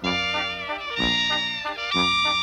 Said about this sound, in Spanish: Sus caballos relincharon